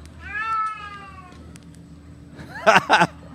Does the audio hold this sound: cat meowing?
yes